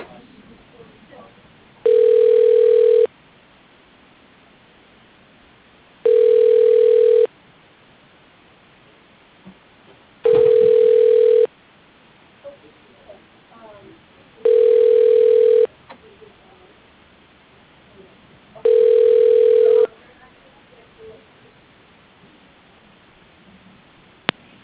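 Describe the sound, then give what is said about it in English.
A telephone ringback tone repeats five times, each steady tone lasting about a second with roughly three-second gaps of quiet line noise between, as a call is transferred. “And your call is being transferred.”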